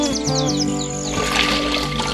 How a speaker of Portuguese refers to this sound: E o barulho mais frequente é o do canto dos pássaros.